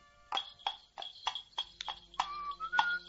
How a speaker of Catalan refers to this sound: Els cavalls, que anaven al trot, feien dringar els cascabells.